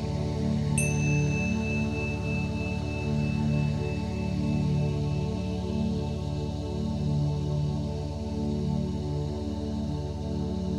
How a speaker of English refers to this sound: The meditation consists of verses of scripture being read with breaks between. In the breaks, you will hear a chime sounded twice.